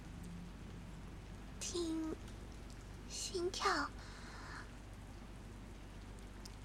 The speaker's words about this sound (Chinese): 这么大雨声你怎么听啊？